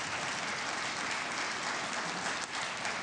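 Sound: round of applause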